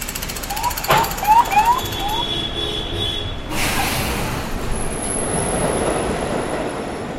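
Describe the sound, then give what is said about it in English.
A subway train pulls into an underground station platform in New York City with loud metallic wheel squeals and a steady rumble, and a thin high whine lingers as it slows. No one speaks. “Below ground, a saxophone fills the subway platform silence, then a train pulls in.”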